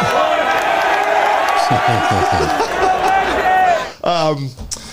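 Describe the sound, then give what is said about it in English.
A large stadium crowd at a game chants "one more dog" and cheers loudly in a dense, rhythmic roar for about four seconds, then a single voice rises in a loud shout near the end. “They just began chanting and cheering, one more dog.”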